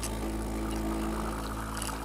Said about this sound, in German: Jenes Geräusch, wenn die Kaffeemaschine läuft.